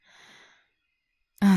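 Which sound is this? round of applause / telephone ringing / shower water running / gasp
gasp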